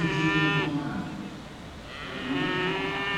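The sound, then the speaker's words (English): Dairy cows moo loudly in a cattle barn at the Indiana State Fair in Indianapolis: one long harmonic low first, a short lull with faint background noise, then a second sustained moo rising in after it. “stands in front of several cows with his grandkids inside of the cattle barn at the Indiana State Fair in Indianapolis.”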